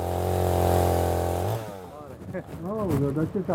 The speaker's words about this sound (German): 2 Männer setzen die Kettensäge an zahlreichen Baumstämmen an, die gerade von einem LKW abgeladen wurden.